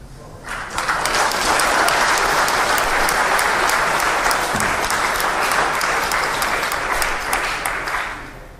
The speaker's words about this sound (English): Why are you applauding that? What kind of people would applaud that? Am I a racist? You've sat through the last hour and a half of me speaking, and you're applauding someone asking me if I'm a racist? What kind of people are you?